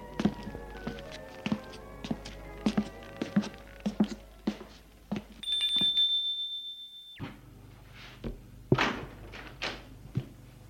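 Footsteps thud steadily, then a doorbell at Sylvain's house gives one long, shrill, unbroken ring lasting under two seconds before the footfalls resume, on a day turned suddenly cold with an icy wind. No one speaks.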